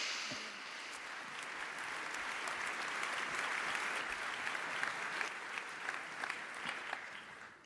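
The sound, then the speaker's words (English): An audience applauds two speakers as they are introduced at a talk. The clapping is steady, a dense wash that holds a fairly even level for several seconds with scattered sharper individual claps on top. “And please give a large applause to our two speakers.”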